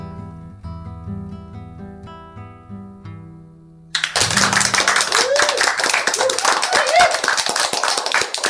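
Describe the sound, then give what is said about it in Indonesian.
Gentle plucked guitar notes accompanying a poetry reading play for a few seconds, then a school audience breaks into loud, sustained applause for the poem, with dense clapping and a few faint cheers continuing to the end. “Sekali lagi, tepuk tangan yang meriah untuk puisi”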